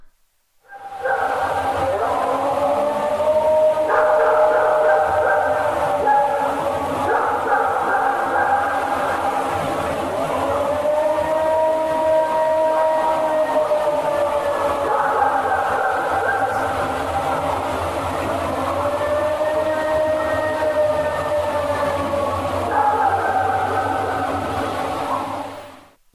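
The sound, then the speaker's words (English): A recorded, unexplained eerie howl drones steadily in the background for about twenty-five seconds, its pitch rising and falling in slow waves over a constant hiss of noise. “I was going to send you the Ohio Howl. Like, this is the Ohio Howl, but...”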